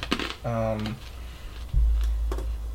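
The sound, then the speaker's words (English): Dice clatter and tumble across a hard tabletop in a quick burst of sharp clicks, with a brief hum of a voice and a low rumble underneath. “I don't know which dice to use. They're all failing me.”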